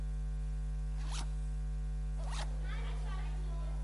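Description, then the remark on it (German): The small zipper of a pencil case is pulled twice in quick, rasping strokes about a second apart, followed by a softer scratchy rustle, all fairly quiet over a steady low hum. “Ein Reißverschluss von was? Vom Reißverschluss? Federmappe.”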